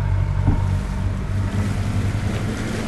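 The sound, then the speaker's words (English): A 24-foot skiff speeds across the open water of the Mississippi Sound, its engine a steady low drone layered with rushing wind and splashing hull noise, loud and continuous throughout. “We're zipping out on the Mississippi Sound in a 24-foot skiff.”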